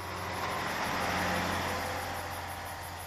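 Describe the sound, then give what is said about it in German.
A van rumbles past with a steady engine drone and tire noise, swelling slightly midway and easing off again as it drives along toward a lake, headlights flickering through the thicket, heard alone with no voices. “Seit wann fahren Geister mit einem Transporter zum See?”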